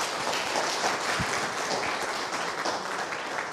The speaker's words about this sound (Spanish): Bienvenidos y bienvenidas, es una alegría tenerlos presencialmente por fin. Un aplauso, sí.